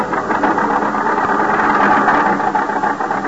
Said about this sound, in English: The little car lurches and bounces in its bite to keep the center of the highway.